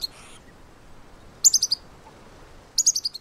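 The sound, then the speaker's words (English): A bird's sentinel alarm call: two bursts of rapid, sharp, high-pitched chirps, four or five notes each, repeating over a faint background hiss. No one speaks. “But after a few months spent getting to know their new friends, they began to trust them and reacted appropriately when hearing the alarm call.”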